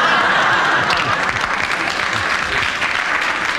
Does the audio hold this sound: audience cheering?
yes